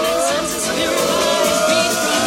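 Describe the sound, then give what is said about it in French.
A loud, sustained roar of a crowd cheering as a young man wins a game of Clash Royale, an online multiplayer combat game, on his mobile phone, dense and continuous throughout, with shouting voices rising out of the noise. “Il a remporté sa partie, il a déchaîné les foules, donc comme vous pouvez l'entendre dans la petite vidéo là.”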